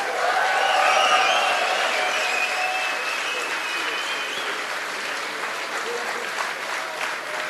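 A large audience claps continuously after a band's concert performance, a dense, steady roar of applause with a few high whistles and cheers rising early on, then holding at a full, even level.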